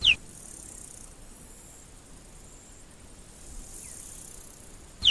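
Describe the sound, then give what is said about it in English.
A cheetah gives two short, high-pitched, bird-like chirps, one at the very start and one at the end, with a long stretch of steady hiss in between. “And that's what the cheetah's amazing chirp sounds like on a microphone far more powerful than my own.”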